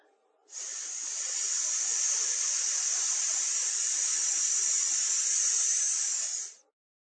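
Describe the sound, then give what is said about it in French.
A voice holds a long, steady hissing "sss" through clenched teeth for about six seconds, bright and sharp, with an even loudness before it cuts off. “Ensuite, nous vocaliserons le S comme un sifflement, en serrant les dents et en l'allongeant.”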